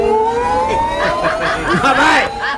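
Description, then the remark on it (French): An electric car's steady, high-pitched motor whine rises slowly in pitch and stays loud throughout, while someone chuckles over it partway through. “Bah, tu connais la voiture électrique, Et tu as entendu le son de la voiture électrique?”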